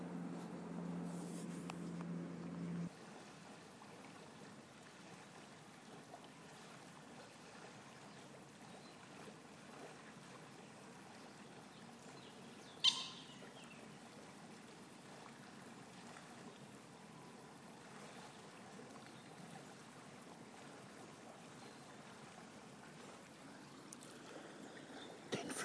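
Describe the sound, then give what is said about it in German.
A stream flows and babbles steadily throughout, a soft continuous wash of water with a brief low rumble at the start and one sharp click midway. No one speaks. “Der fließt hier und plätschert Tag und Nacht, als ob nichts wäre.”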